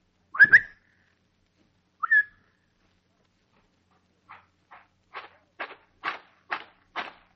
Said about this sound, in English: I heard your whistle, Sarge. What's up?